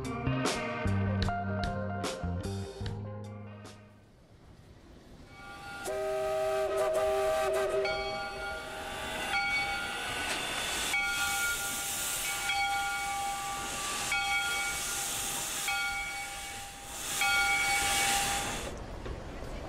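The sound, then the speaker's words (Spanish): A steam train hisses loudly at a station, with broad bursts of steam venting and sustained whistle-like tones, preceded by a short musical chime sequence; no one speaks. “Yo estaba sentada en una estación de trenes.”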